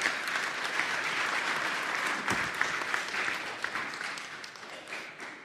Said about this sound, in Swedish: Ge er själva en applåd. Ni har klarat detta väldigt bra.